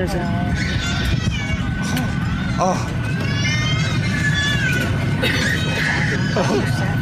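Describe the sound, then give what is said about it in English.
A newborn baby cries in thin, high, wavering wails in several short bursts as it is born aboard a Southwest flight bound for Orlando that diverted to Birmingham, over a loud, steady roaring hum, with faint murmuring voices and someone's cough underneath. “She hears it start crying as it's born.”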